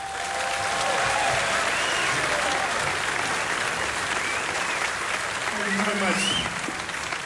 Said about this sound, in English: For your warm applause.